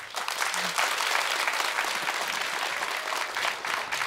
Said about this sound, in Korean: 여러분 큰 박수로 다음 무대를 맞이해 주세요.